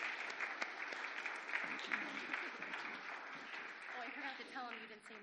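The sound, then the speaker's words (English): A crowd applauds steadily for several seconds for three people, a dense wash of many hands clapping at once, with a few voices faintly audible underneath near the end. “Sorry, I know we just clapped.”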